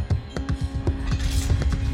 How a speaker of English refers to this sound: The cargo bay door rumbled in the next room. I heard the audible hiss of air as the sub opened itself to the vast, sprawling uncertainty of Atlas Station.